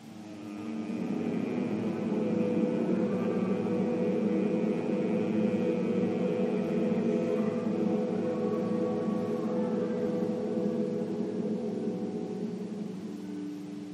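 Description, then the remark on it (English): A long, steady nasal hum like a buzzing bee, made in Brahmari breath practice, low-pitched and rich in overtones, holding evenly for about thirteen seconds before easing off, with no words spoken. “Two rounds of the Brahmari sound of the massaging inner humming bee.”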